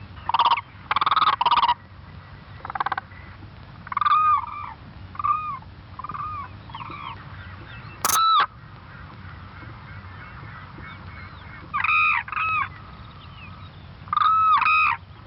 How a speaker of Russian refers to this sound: Это черный журавль.